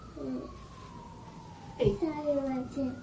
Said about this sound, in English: The fire engine. The fire engine? Yeah. Yep, the fire engine.